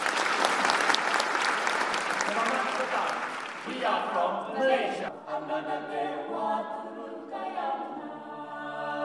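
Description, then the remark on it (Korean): An audience breaks into dense, sustained applause for the first few seconds, welcoming the entrance of AYCO at a choral performance in Busan marking the Korea-ASEAN Commemorative Summit. The clapping then gives way to a voice speaking over faint lingering claps. “AYCO의 입장 박수로 맞아주시기 바랍니다.”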